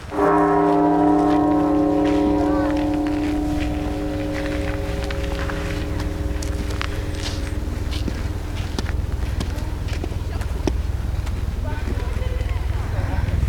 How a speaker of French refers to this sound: Alors si j'ai de la chance, j'ai entendu le bruit de la cloche.